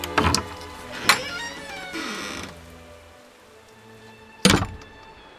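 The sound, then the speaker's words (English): A heavy door, the glass-paned door of a study, thuds shut, followed by a short metallic scrape and clicks of a key working its lock, then quiet before another solid knock near the end. “Fitz takes the key from the lock, securing it deep in his pocket.”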